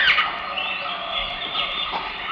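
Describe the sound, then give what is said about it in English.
A bird squawks harshly and almost continuously for a couple of seconds, its raspy calls fairly loud, with no one speaking. “That bird still doesn't like me.”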